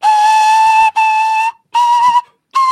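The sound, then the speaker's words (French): Shrill whistling made by blowing into a snail shell: four loud, steady high-pitched blasts with a slight breathy edge, separated by short gaps of silence. “Je confirme que vous avez pris, ton, voilà, parce que comme c'est pas filmé, et vous avez pris une coquille d'escargot, vous avez soufflé dedans.”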